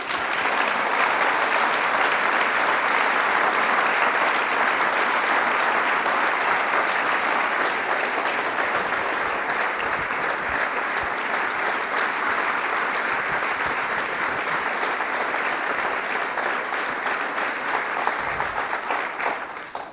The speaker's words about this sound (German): Herzlichen Applaus für Carola Schneider.